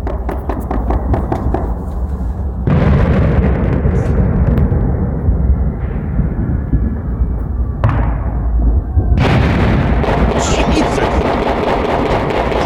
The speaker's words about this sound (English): And it turns out there were so many gunshots, fireworks, and just plain explosions in Kansas City that it was picked up by the National Weather Service. This is actual sound footage of Kansas City last night following the game.